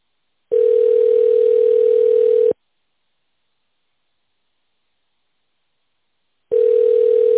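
telephone ringback tone

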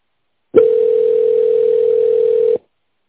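telephone ringback tone

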